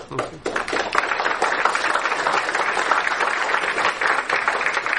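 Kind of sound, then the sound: crowd, audience applause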